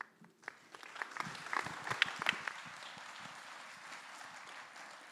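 A crowd breaks into applause, many hands clapping in a dense, crackling wash that swells in the first couple of seconds and then holds steady and fairly loud.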